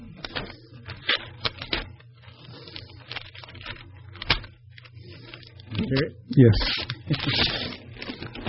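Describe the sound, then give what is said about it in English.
Paper crinkles and rustles in short bursts, then tears open in a longer ripping stretch near the end, with brief speech in between, as a teacher opens a gift wrapped by the giver's daughter; it holds a picture of the disciples on the Sea of Galilee. “My daughter wrapped it. Yes, I'd like you to open this.”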